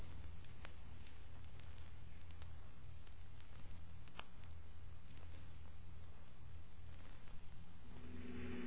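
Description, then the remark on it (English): A big convertible car's engine drones steadily throughout as it drives, a continuous low rumble with road noise and a slight rise in pitch near the end, heard alone without any voices. “He must know we're following him, the way he's driving.”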